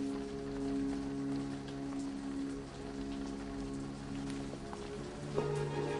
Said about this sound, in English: This heavy rain is surely exceptional.